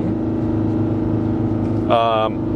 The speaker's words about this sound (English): So now you can actually kind of hear engine braking.